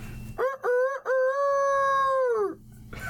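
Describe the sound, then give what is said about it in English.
A person does a loud rooster crow impression: two short clipped notes, then a long sustained cry that bends downward at the end, with no talking over it. “And then I gotta do a rooster crow for my buddy.”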